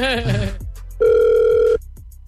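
A single steady electronic ringback tone on an outgoing phone call from the radio station Hot 96.9 to Bora Bora buzzes for under a second, loud and clear, right after a brief burst of voice and before the line goes quiet.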